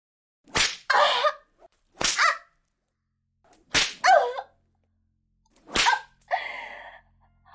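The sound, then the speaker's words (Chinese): Four sharp whip lashes crack at uneven intervals, each loud and striking a person's buttocks, and each followed immediately by a short pained vocal cry. “你的鞭子太厉害了，一下下的抽在我的屁股缝上。”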